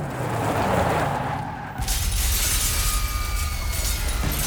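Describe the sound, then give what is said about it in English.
A loud crash as an airport terminal's glass doorway shatters, followed by a sustained, dense spray of shards and debris clattering for several seconds, with a low rumble underneath and no voices. “People hurried with baggage and tickets in hand, but everything came to a chaotic halt when the airport's glass doorway shattered.”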